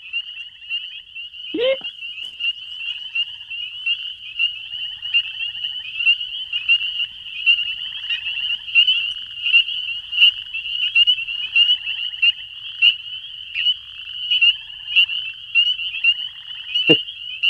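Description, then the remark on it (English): A dense chorus of spring peepers fills the air with continuous high, shrill peeping calls overlapping in a steady, ringing wall of sound, with a couple of brief louder knocks near the start and end. “All right, those are some spring peepers.”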